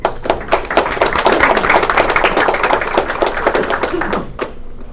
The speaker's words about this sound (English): Thank you. Thanks for the applause.